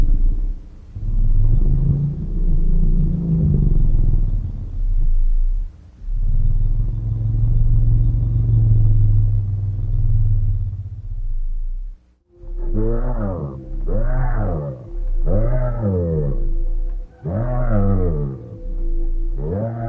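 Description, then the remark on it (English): Deep, drawn-out elephant rumbles throb low for several seconds, then give way to five higher, swooping harmonic calls in quick succession, the same elephant voices in a sped-up recording. No talking. “If you speed up recordings of elephants' voices, it reveals a new channel of communication.”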